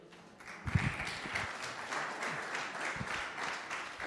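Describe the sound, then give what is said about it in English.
An audience applauds steadily for about four seconds, a dense, even patter of many hands clapping at once, with a few sharper individual claps poking out near the start. “I'll message Glyn Barrow later and say everyone applauded your thing.”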